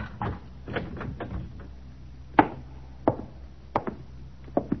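A door is handled and locked: a rattling scrape of wood, then a series of sharp metallic clicks and clunks spaced irregularly, with no one speaking.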